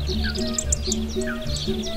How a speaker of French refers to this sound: Et je peux vous dire que les poissons et autres animaux ne s'en plaignent pas, bien au contraire. Surtout les oiseaux que l'on entend discuter à longueur de journée.